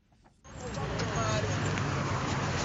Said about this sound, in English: There is a little less traffic in Harare's business district, but otherwise it looks like business as usual.